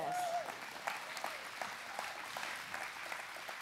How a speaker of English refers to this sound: Give him a big clap.